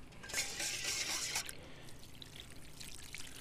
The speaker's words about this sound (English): We're gonna pour over everything.